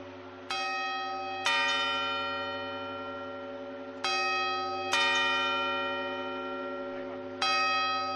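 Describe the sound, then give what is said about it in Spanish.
A carillon's clock bells ring out the quarter chimes: five resonant, ringing strikes at uneven intervals, each leaving a long sustained hum that overlaps the next, heard clearly with no talking. “Ahora son los cuartos.”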